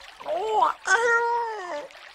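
A cat meows twice, a short rising cry followed by a longer, drawn-out wavering meow, clear and fairly loud with no other sounds around it.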